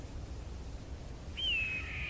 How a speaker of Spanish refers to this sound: Pero un momento. Eso que suena parece un pájaro.